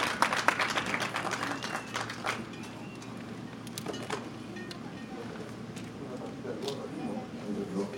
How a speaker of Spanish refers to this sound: Le pido un aplauso, por favor. Él viene con sus muchachos.